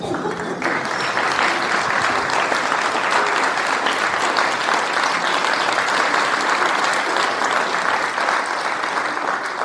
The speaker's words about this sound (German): Sparen Sie sich den Applaus für die Leute, die wirklich gleich was auf der Bühne leisten. Schön, dass Sie alle hergefunden haben hier ins Theater Altes Hallenbad zu unserer Aufführung von Cluedo.